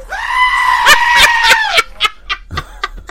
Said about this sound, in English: You know that's a goat, by the way? No, I didn't. That's a goat. Really? That's a goat. That's what makes it even funnier. Oh, my God. That is so funny. The sound effect is labeled screaming goat.